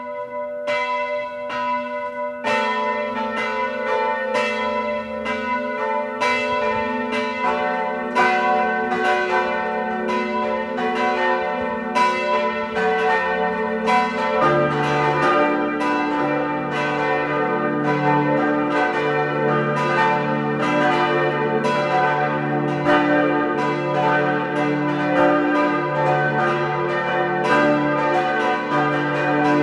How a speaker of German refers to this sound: Es ist 12 Uhr. Sie hören die Glocken der Pfarrkirche Reichenfels in Kärnten.